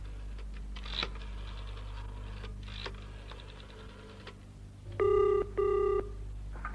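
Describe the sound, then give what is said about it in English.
A few faint clicks from a phone being dialed over a low background hum, then a telephone rings twice in a quick, steady double burst, fairly loud. “Excuse me, I have to make a phone call.”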